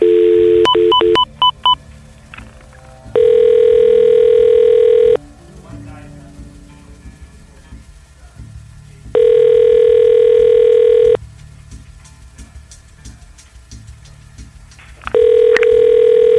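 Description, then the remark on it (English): A quick run of telephone keypad dialing tones as a phone number is called, then the phone ringing on the line: three long, steady, loud ring tones, each lasting about two seconds with pauses between, over a faint background hum, before the call is forwarded to an automated voice messaging system. “Your call has been forwarded to an automated voice messaging system.”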